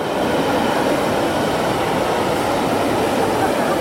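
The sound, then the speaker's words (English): A steady, loud rumble of a train on the rail line running through the city of Ljubljana, with a dense rolling roar that holds constant throughout and no voices. “Much like the train line that runs through the city and the promenade that links it to Tivoli Park and the headquarters of the Graphic Arts Institute.”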